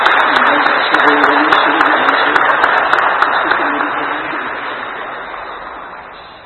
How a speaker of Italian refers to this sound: Ecco, con questi due segni abbiamo celebrato, hanno celebrato il sacramento del matrimonio e noi vi facciamo un bel applauso, mentre loro si danno un bel bacio.